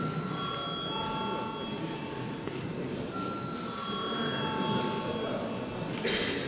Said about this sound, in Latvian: Paldies, lūdzu zvanu.